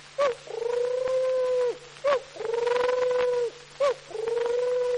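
A turtle dove's cooing, imitated by a voice: three drawn-out, humming coos, each opening with a short clipped note, repeating steadily and fairly loud, with no talking.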